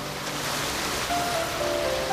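Steady, broad rushing of sea waves, a continuous wash of surf without distinct breaks, fairly loud, with faint thin tones drifting in the background.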